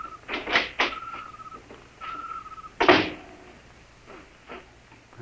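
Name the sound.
door being opened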